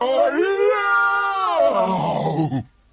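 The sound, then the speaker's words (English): A voice lets out a long, loud, strained roar, "Yow!", rising and wavering for over two seconds before dropping off abruptly, an imitation of the fearful bellow of the flesh lump eater, a 54-foot giant. “The air was suddenly pierced by the most fearful roar Sophie had ever heard.”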